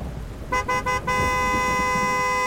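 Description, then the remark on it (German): A car horn blares as a car stops in a heavy thunderstorm downpour by a ruin, a few quick honks running into one long sustained blast, over a steady wash of rain and low road noise. “Und auch Hermann hatte Panther und Paddel tatsächlich gesehen, während die Scheibenwischer seines Autos Höchstleistung erbrachten.”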